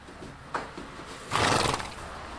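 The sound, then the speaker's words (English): A horse whinnies loudly, a short breathy call followed by a longer, rough, shuddering neigh, with no one speaking. It is Hallelujah, a tall, lean 4-year-old Nez Perce stallion. “He's a really good example of what the Nez Perce horse is.”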